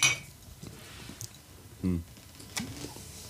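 Beer bottles clink together sharply during a toast at the start, followed by a few softer taps and knocks as the bottles are set down and handled.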